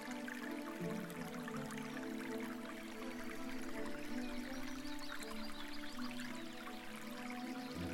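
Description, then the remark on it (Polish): A steady trickle of clean, cold water running from a small spring in a forest clearing, spilling over stones, flowing continuously at an even level throughout with a soft, bubbling texture and no voices. “I natknęli się na źródełko. Z ulgą napili się czystej, zimnej wody.”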